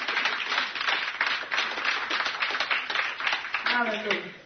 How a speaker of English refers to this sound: Now clap your hands and give God some praise.